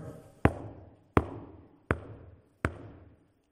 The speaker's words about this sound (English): He's about to leave. He's about to stop knocking at the door. No more.